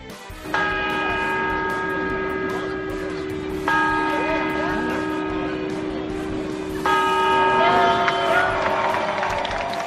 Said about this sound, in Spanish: Es el reloj más famoso de España, el de la Puerta del Sol, que acaba de dar las 12 campanadas más familiares, las que suelen celebrar en este emblemático lugar padres y madres,